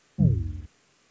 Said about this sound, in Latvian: Lūdzu, zvanu, balsosim par likumprojektu grozījumi dzīvokļa īpašuma likumā otrajā lasījumā. Lūdzu, balsosim.